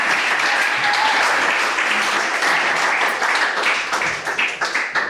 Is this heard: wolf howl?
no